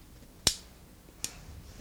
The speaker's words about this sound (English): Now, what I'm doing right now is pulling the cork out. There. And now, we take the cork. Take the cork off the corkscrew.